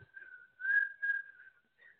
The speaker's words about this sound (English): I can whistle like that song. I hear you, but you can't really. You got to whistle louder so they can hear you.